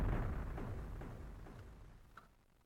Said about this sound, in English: I opened a present, and a firework went off.